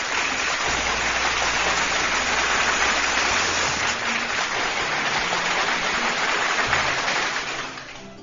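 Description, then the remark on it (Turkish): Sustained applause from a crowd after a poem reading, a dense steady wash of clapping that holds for several seconds before tapering off slightly at the end, with a faint low tone underneath. “Kocaman bir alkış gönlümün dostları.”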